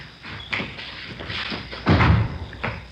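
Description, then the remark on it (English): A door opens and shuts: a few light clicks and rattles of the latch, then a heavier thud as it closes, followed by a soft final knock. “Here, I'll get the door.”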